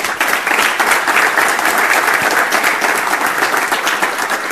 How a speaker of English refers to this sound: please give a round of applause for Roland